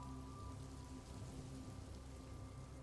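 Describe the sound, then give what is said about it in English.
Steady rain falls continuously beyond an open rooftop door, heard from a stairwell, with an even, hissing patter and no pauses alongside a low, constant hum. There are no voices. “Then notice the rooftop door is open, making the stairwell smell like rain.”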